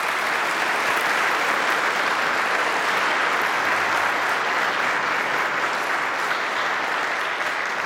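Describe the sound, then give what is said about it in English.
An audience applauds steadily for about eight seconds to thank the church staff and pastor, a dense, loud wash of clapping with no pauses and no voices rising above it. “Can we just do that this morning by our applause?”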